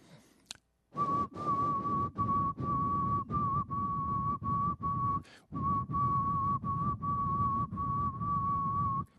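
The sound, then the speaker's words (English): A person whistles the tune of Amazing Grace on a single unchanging pitch, making no distinction between the notes. It is held in long, loud tones broken by brief regular pauses, with no talking. “I'm going to whistle a tune for you, and I want you to tell me what the title of this tune is.”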